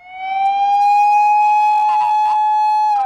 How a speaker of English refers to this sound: Sirens filled the air as rescue workers tried desperately to reach the worst-hit areas where people are trapped under their collapsed homes.